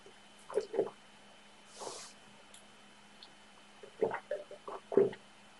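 Someone drinks water: a few wet gulps and swallows in small clusters, separated by a soft breath, with no talking.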